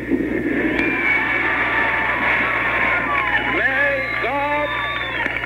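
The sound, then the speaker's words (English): A dense, steady roar of a crowd of over 100,000 at Battery Park, New York, in pouring rain for Pope John Paul's visit, many voices blending into continuous cheering, with a few rising and falling whoops standing out toward the end. “Well, before a crowd in excess of 100,000 in a pouring rain at Battery Park, Koch got what he wanted.”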